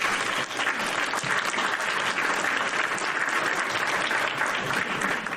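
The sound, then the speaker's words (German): Steady audience applause fills the whole stretch, a dense wash of many hands clapping at an even, sustained level with no voices rising above it. “So, hast du Applaus bekommen von unserem Publikum?”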